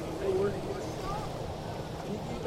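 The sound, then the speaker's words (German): A fast motorboat on a lake, towing a wakeboarder who is attempting a jump, drones steadily at moderate loudness, a low throaty rumble with a faint whine on top, mixed with wind and open-water noise outdoors. “Da kommt einer vorbei auf seinem Wakeboard, gezogen von einem schnellen Motorboot, und probiert sicher gerade einen Jump.”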